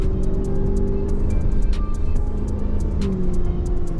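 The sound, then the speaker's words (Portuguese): Steady low road rumble from inside a large car with air suspension driving over bumps, with a couple of soft thuds and faint regular ticking, moderately loud with no talking. “Suspensão pneumática, claro, para manter o conforto, né, num carro desse tamanho. E aqui tem alguns bumps.”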